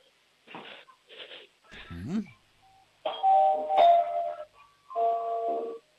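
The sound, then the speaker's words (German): A voice imitates a doorbell, singing a short melody of chime-like tones in several bursts, some with gliding pitch, clear against a quiet background. “Bitte, was habt denn ihr für eine coole Türklingel? Die spielt ja eine ganze Melodie ab.”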